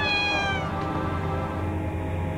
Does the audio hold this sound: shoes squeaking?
no